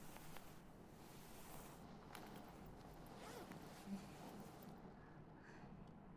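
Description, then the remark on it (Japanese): A zipper is worked open slowly and unevenly, with more difficulty than usual, its quiet ratcheting rasp continuing for several seconds with small stops and starts; no voices present. “なんかいつもよりチャック開けるの手間取っちゃいますね。”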